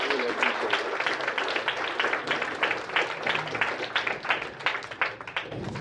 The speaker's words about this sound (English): So I just wanted to get him a round of applause. I thank y'all so much.